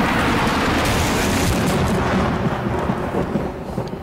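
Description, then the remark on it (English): A loud, rolling crash of thunder from a lightning strike on the planet Seer: a dense, rumbling roar with crackling texture that holds steady for several seconds before easing slightly at the end. No voices. “It's just lightning!”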